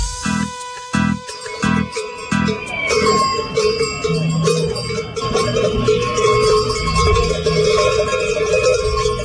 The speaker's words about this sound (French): Les cloches que vous entendez là sont les cloches accrochées à la ceinture d'un manifestant et il porte une banderole.